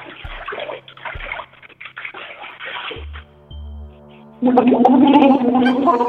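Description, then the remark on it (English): Gurgling, bubbly water sounds from someone with their face under the water in a bathtub blowing bubbles with their mouth, coming in uneven bursts before a louder, sustained stretch of bubbling near the end. “Can you put your face underneath the water and blow bubbles? Like with your mouth?”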